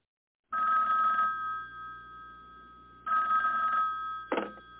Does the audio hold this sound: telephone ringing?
yes